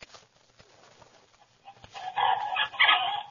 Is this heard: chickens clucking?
yes